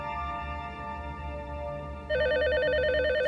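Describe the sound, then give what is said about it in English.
An electronic telephone rings with a rapid warbling trill, starting suddenly partway through and sounding loud over a steady tonal hum in the background. “Startled, Lewinsky grabs the phone.”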